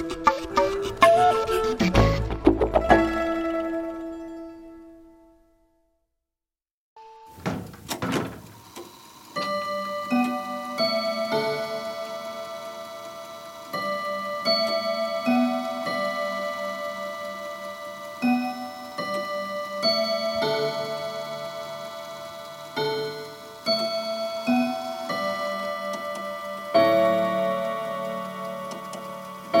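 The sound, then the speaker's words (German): A grandfather clock in the large dining room of a house in Hertenstein strikes at midday, calling residents and guests to lunch. It ticks steadily among ringing, sustained chime tones, in an even rhythm after a bright opening strike and a brief pause. No one speaks. “Sonnenlicht flutet das große Esszimmer, wo sich Bewohner und Gäste des Hauses beim Glockenschlag der Standuhr zum Lunch zusammenfinden.”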